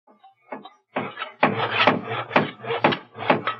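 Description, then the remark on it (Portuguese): Construction sounds of woodworking while building a house: a series of loud, rough rasping strokes, like a saw or file working wood, repeating in a fairly steady rhythm, with no voices. “Parece alguém construindo uma casa, não é?”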